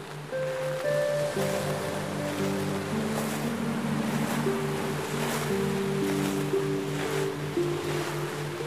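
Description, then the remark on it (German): Steady ocean surf rushes continuously as waves break against black rocks along a coast, with periodic louder surges, while soft sustained musical tones hum underneath; no one speaks. “Du hörst das Rauschen der Wellen, die an schwarze Felsen schlagen.”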